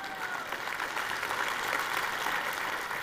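An audience claps steadily throughout during a sermon, a dense wash of many hands at an even, moderately loud level that neither builds nor fades, with no voices standing out above it.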